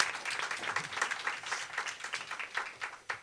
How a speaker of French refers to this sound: Bienvenue sur Radio Emma pour cette émission Hors les Murs, spéciale … qui est venu nous rendre visite, qu'on peut applaudir encore et qui vient de performer un super DJ set.